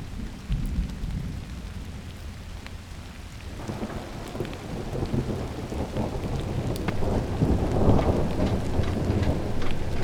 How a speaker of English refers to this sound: Stopping slowly and listening to the rain. Which sounds like moving cars on the street.